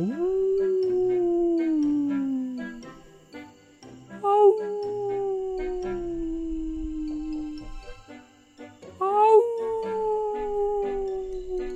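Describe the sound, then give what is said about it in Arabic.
A person imitates a wolf by a large window of a house, giving three long, loud howls that swoop up and slowly trail downward, with short pauses between them and no other voices. “وكالأحمق صار يعوي كالذئب.”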